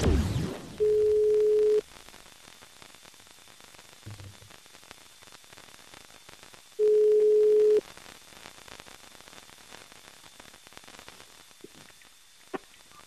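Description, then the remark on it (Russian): A telephone ringback tone sounds twice, each a steady one-second tone separated by a long pause, over a faint line hiss while a call is being placed from a radio morning show to the person being celebrated. “Ну вот, давайте позвоним человеку, виновнику торжества и поспрашиваем вообще.”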